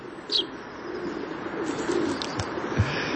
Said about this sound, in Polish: Mazurek jest gatunkiem chronionym? Tak, tak, oczywiście objęty jest ochroną ścisłą. Właśnie słychać to delikatne ćwierkanie w porównaniu z głosem wróbla mazurka.